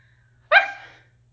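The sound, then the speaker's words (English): A single short bark voiced by a person imitating a dog, sudden and fairly loud with a harmonic, throaty quality, fading quickly into silence. “I'm afraid I'll sound pathetic if I actually bark. Okay, master, for you, I will actually bark.”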